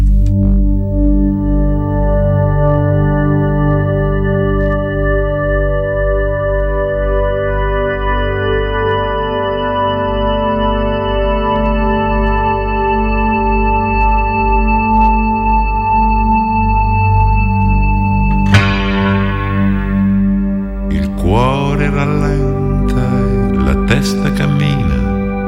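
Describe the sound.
An Italian song plays from a recording: sustained, steady harmonic tones over a pulsing low beat, then a brighter section near the end with gliding, voice-like melodic lines.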